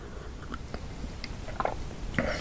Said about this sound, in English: I've got some Earl Grey tea here. I'm going to take a sip, if you'll pardon me just a second.